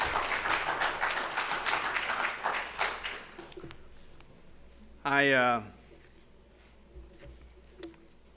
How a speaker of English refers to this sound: Even though he's done it for the first time, and since he's been at this church for 25 years, he did a great job, didn't he? Y'all give him another round of applause.